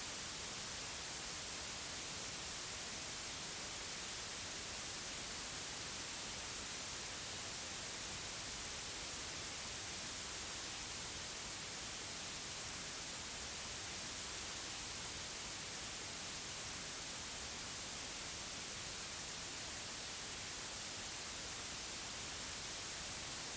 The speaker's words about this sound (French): Fais comme si tu parlais au ralenti et laisse le bruit blanc entrer dans ta bouche.